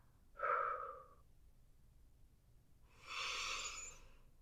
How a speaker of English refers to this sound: On the exhale, it's nice and slow. Like we're breathing out the smoke.